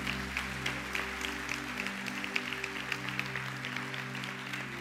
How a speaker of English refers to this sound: Come on, let's give a hand clap to the Lord for this.